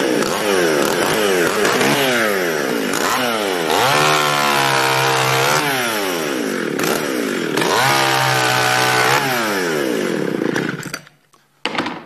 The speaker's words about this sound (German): Ja, wunderbar, die Säge funktioniert. Jetzt werden möglicherweise alle diskutieren und sagen, oh, guck mal, mit dem Gottesdienst, eine Motorsäge und so weiter.